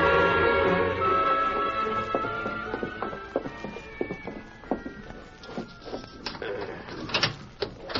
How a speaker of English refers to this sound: There's the door unlocked